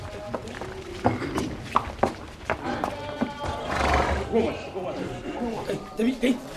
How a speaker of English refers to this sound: A lot of dignitaries all in amazing robes, gathering now, most importantly, a horse. It's a white stallion. White stallion. A white stallion. This is the emir's stallion.